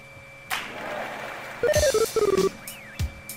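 Two quick runs of short electronic phone beeps at stepped pitches, fairly loud, framed by soft brushing swipes of a finger across a touchscreen, with no talking.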